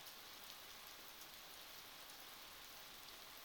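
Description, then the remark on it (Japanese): Gentle drizzle falls steadily, a soft, even hiss of fine misty rain with no distinct drops standing out. It stays quiet and constant throughout, with no voices. “そうやな、今日の雨やったら優しい雨、霧雨といって霧のように細かい雨ですね。”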